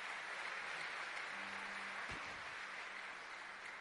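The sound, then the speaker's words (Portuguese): An audience applauds God after a prayer in a steady, dense wash of clapping that holds at an even level throughout, with a faint low hum and a brief thump partway through. “Pode aplaudir porque Ele é santo e poderoso.”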